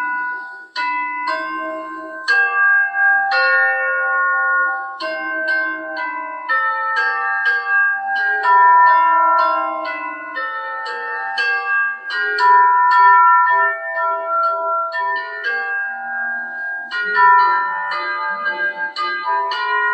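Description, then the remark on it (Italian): Tuned tubular bells, a set of cylinders from shortest to longest, struck with small hammers play a lively melody, bright metallic notes ringing and overlapping in quick succession, clear with no voices. “Si suonano con dei martelletti e hanno il suono proprio caratteristico della campana, del campanile.”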